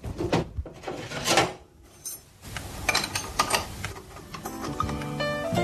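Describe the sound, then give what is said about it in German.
Metallic clinks and scrapes as a wrench is handled and fitted to screw a water faucet back together, with several irregular clanks and a brief pause midway, no voices. “So, wo ist mein Schlüssel?”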